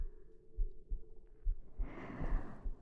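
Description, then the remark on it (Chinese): A deep, muffled heartbeat thumps in a steady, quickening rhythm, several beats in a row, while a soft breathy hiss swells up over the second half. No one speaks. “我感受到了，你的呼吸变得急促，你的心跳也在慢慢加速。这种心跳的悸动，就是你们人类所说的爱吧。”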